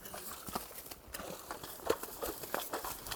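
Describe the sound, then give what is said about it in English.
Horse hooves slosh and thud through shallow water as a horse walks straight through a water crossing amid dry sagebrush, a series of soft wet splashing steps with rustling, steady, with no talking. “Jack, however, doesn't even pause. And I think they'll go right across, they should, right here.”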